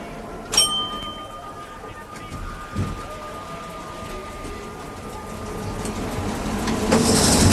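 metro train running

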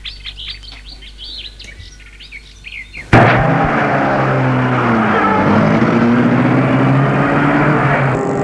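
car driving

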